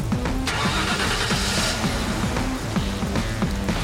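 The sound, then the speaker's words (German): A car engine starts and runs steadily in Germany, a loud, continuous mechanical rumble with a low rhythmic pulse and no voices. “Ich steige jetzt wieder ins Auto.”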